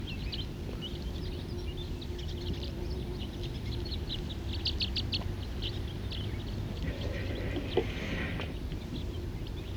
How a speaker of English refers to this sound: Right now there's a mixed flock of crossbills and siskins.